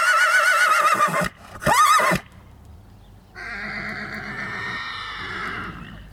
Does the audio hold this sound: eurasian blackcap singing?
no